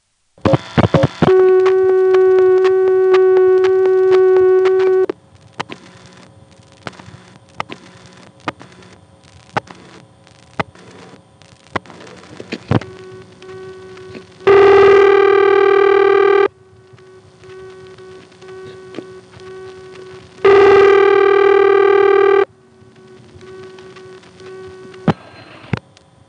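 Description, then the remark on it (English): A telephone call within an NX2 switching exchange: a steady dial tone, then a flurry of mechanical relay clicks, followed by two loud ringback tones separated by clicking pauses. No one speaks. “Let's hear a call within the NX2.”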